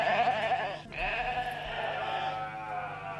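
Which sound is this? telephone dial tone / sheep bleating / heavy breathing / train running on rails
sheep bleating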